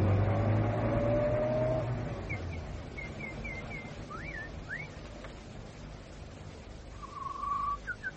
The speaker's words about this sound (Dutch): Luister eens. Hoor je dat? Een auto? Ja. Die komt uit het dorp.